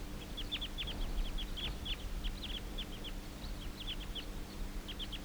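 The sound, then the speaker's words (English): A flock of about eight wild birds calling as they take off and circle: quick, high-pitched chirps in irregular bursts over a steady low rumble, with no talking. “And now the whole flock took off.”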